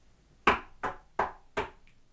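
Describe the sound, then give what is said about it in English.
Four sharp knocks by hand, evenly spaced at a steady rhythm, rap on a hard surface, each with a quick decay, followed by quiet. “So you just didn't feel like knocking today?”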